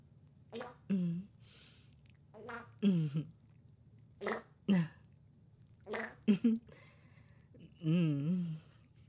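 A string of small farts: about eight short, squeaky sputters and brief puffs, irregularly spaced across several seconds, with quiet pauses in between and no talking.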